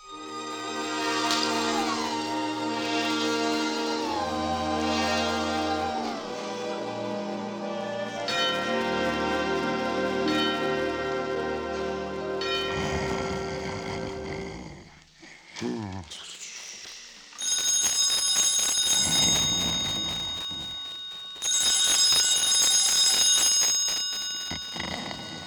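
Orchestral music plays, then gives way to an old-fashioned telephone bell ringing twice, each ring a loud, bright, rapidly jangling burst lasting several seconds with a short gap between.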